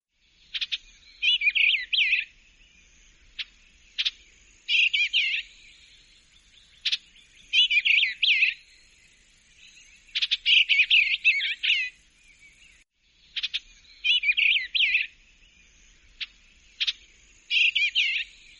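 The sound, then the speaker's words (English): A bird sings clear, bright song phrases over and over, each lasting about a second, with short gaps and a few sharp single chips between them. No talking. “Enjoy the birds.”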